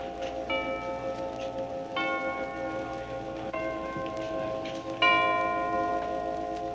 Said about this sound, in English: Thus the chimes rang out, and the tree springs into light further down from the south portico of the White House.